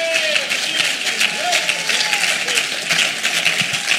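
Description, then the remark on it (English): A large church audience claps steadily and fairly loudly for several seconds, a dense continuous patter of many hands, with scattered voices calling out underneath. “Clap your hands that you got to be in the church at such a time as this.”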